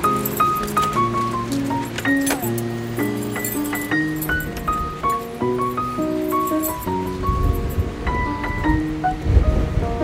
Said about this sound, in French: Il y a du vent, hein? Il y a du vent, ouais.